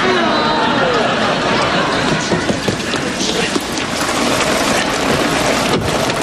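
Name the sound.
rain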